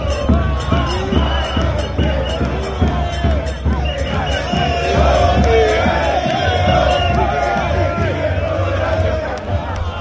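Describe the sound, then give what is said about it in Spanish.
A large crowd of River football fans chants loudly and continuously in unison in the Puerta del Sol in Madrid, with rhythmic pulses, shouts and whoops rising over a dense roar of many voices. “tengo un compañero en la Puerta del Sol de Madrid donde están los hinchas de River. ¿Quieres escuchar lo que cantan”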